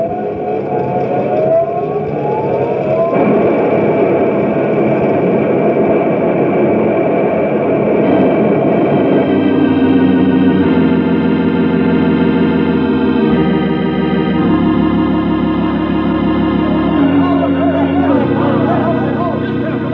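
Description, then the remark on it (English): A loud, steady roar of water rushing out of a bursting dam pours out without pause, joined midway by sustained tonal, siren-like notes layered over the torrent. “this dam just won't hold any more water.”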